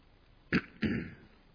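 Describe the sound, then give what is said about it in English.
Two short throat-clearing coughs to clear an irritated throat, the second slightly longer and raspier, with no talking around them. “Sometimes coughing helps, but a lot of times it just kicks a can down the road, as they say.”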